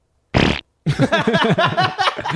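A short burst of noise followed by a longer, wobbling, buzzy fart sound, loud, a Bronx cheer: a person blowing a raspberry to imitate a fart, with no talking.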